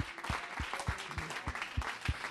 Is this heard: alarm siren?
no